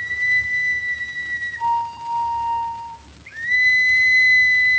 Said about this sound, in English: Boy, these old whistles sure do the trick, don't they? I guess there's nothing much better to signal with. I sure am glad Mo Brown gave them to us down on the Mississippi, because there's no mistaking things.